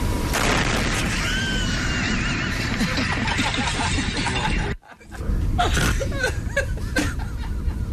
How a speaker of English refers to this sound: I thought you were going to hit like a car crash or something like that. The explosion was much better.